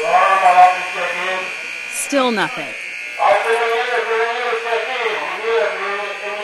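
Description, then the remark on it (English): A harsh, continuous prison alarm buzz drones loudly through the whole stretch without pause, while a supervisor's voice speaks briefly over it through the overhead speaker system, trying to get the officer who triggered the alarm to check in. “A supervisor in the command center uses the overhead speaker system to get the officer who triggered the alarm to check in.”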